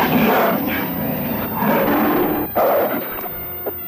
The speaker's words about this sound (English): and they step aside to reveal a second werewolf, a powerful gray werewolf who now rumbles its challenge to Erica. The gray wolf attacks with the speed of thought, and soon the two half-human canines are locked in mortal combat.